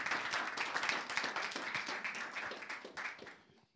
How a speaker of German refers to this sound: Gebt ihm mal einen großen Applaus, war richtig genial.